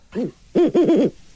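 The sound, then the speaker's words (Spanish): An owl hoots: one soft hoot, a short pause, then a quick run of three or four hoots, clear and fairly loud with no one talking. “Es que así cuando hablas en búho, como que no muy te entiendo.”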